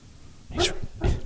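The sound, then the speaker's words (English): A sleeping dog named O'Neill, dreaming with his little legs moving, gives two short, quiet chirping yips about half a second apart, high and slightly breathy, with no talking around them. “Shh. He's chirping. He's having a dream.”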